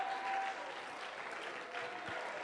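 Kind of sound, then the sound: crowd, audience clapping hands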